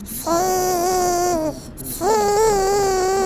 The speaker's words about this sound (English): The baby crying next door.